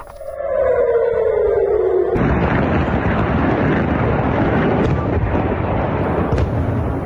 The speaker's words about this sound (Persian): در همین حال به دنبال ادامه حملات موشکی از سمت غزه به اسرائیل، ظهر روز دوشنبه صدای آژیر در مناطق مختلفی از تل آویو به گوش رسید و ویدیوهایی در شبکه‌های اجتماعی از انفجار دست کم یک موشک در اطراف فرودگاه بن گوریون این شهر منتشر شد